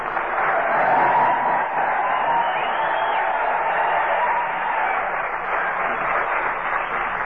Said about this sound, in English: Here we are at old Camp Talon. All right, boys. Come on, start yelling.